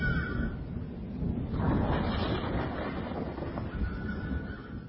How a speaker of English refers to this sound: I think a storm's coming.